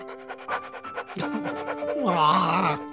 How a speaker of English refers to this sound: Hey, guys, are you seeing this? The puppy's giving me one last kiss. Oh, you're so cute.